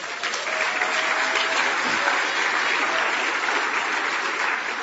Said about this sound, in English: Yeah, he gets applause.